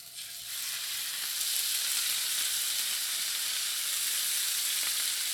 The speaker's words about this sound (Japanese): 10分漬けた豚肉を焼いていきます。フライパンにサラダ油を熱して汁気を軽く切った豚肉を入れていきます。